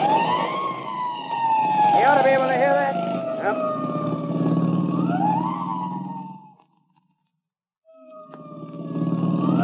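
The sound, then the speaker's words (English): A police car siren wails loudly over a rumbling engine while chasing a speeding coupe, its tone sweeping steadily, then cuts out for about a second before starting up again. “I'll get the siren all the way.”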